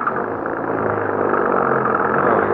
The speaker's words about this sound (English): Please, hurry. Get the car started. All right. All right, get inside. Maybe it'll go now.